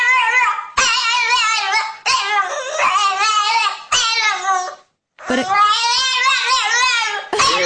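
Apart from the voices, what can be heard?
small dog whining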